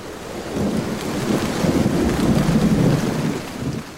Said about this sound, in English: I can hear another shower drumming at the window.